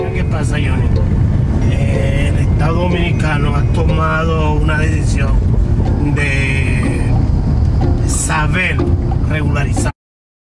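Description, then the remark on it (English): A car, driven by a Dominican Border Patrol official, drives up the border in the Dominican Republic with a steady, loud low rumble running throughout, while people talk over the droning engine and road noise until it cuts off. “We have hours in the car where he slowly and cautiously tells me about how immigration policy has changed in the Dominican Republic in recent years.”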